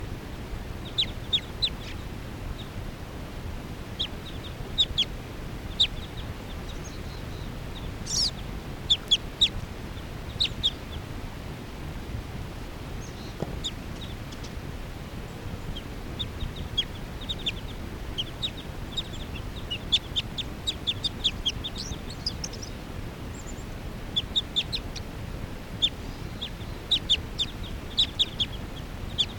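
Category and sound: bird, bird calling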